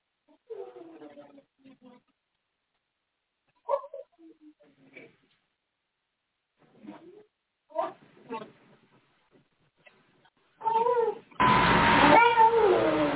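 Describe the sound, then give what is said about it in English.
A cat named Bubby howls and meows in a string of drawn-out, wavering cries with short pauses between them, growing louder and more insistent toward the end. “What are you howling about? I'm trying to do stuff here.”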